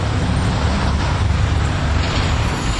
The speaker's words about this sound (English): Man, the traffic out here is horrendous today.